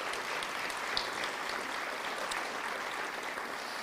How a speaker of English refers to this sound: So let's give him a round of applause for that.